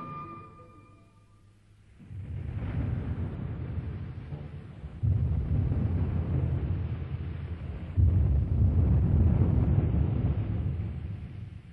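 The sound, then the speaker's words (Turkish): After a brief soft tonal hum, deep rolling thunder takes over in three successive surges, each one louder and rumbling heavily in the low end, with no voices. “Gök gürültüsü onu hamd ile, melekler de ona olan korkularından tesbih ederler.”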